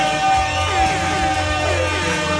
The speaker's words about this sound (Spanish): ¡Fuerte aplauso para Lonnie Contreras!